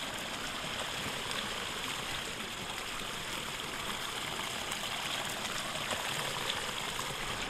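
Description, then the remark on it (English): Water pours steadily down a small outlet just before the Maher, a continuous rushing and splashing with a bright hiss, unchanging throughout and with no voices. “we've just come to a small outlet where the water flows down just before we hit the actual maher itself.”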